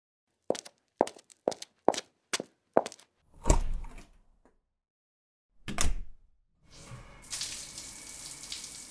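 water running

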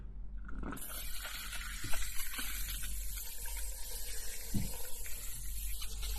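tap water running

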